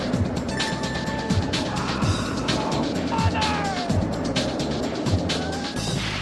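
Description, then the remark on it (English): A loud, continuous roller coaster ride: a heavy rumbling roar with rapid rhythmic clattering of wheels on track, rising squeals, and faint shouts over the din. “That wasn't so bad. You know, it turns out that roller coasters are actually the ride that you're least likely to get sick on.”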